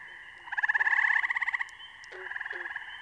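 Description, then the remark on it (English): Gray tree frogs trill in a dense, pulsing chorus, one loud burst rising and fading over about a second, then a softer trill following, with other frog calls layered faintly behind. “Dominating the chorus are the short, vibrant trills of gray tree frogs, punctuated by the occasional loonk, loonk of green frogs.”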